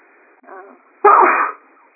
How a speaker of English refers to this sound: And sneezing.